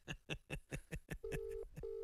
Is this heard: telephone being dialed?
yes